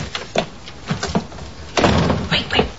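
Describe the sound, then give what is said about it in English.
A door is pushed shut with a broad, fairly loud thud, followed by a couple of sharp metallic clicks as the lock turns. A few softer knocks come before it, with muffled voices. “lock the door. Lock the door, seriously.”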